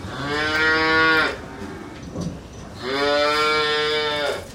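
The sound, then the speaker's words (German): A dairy cow moos twice, two long, loud calls of about a second each, separated by a short pause with faint background noise. “So ergeht es fast allen Kälbern in der Milchproduktion. Kühe ohne Hörner brauchen weniger Platz im Laufstall.”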